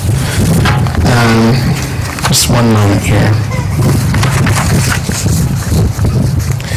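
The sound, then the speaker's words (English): Loud, steady wind on a windy day buffets an outdoor microphone, producing a constant low rumble throughout while a man speaks briefly over it before giving a sermon. “On a windy day, one of your most important things is a magnet.”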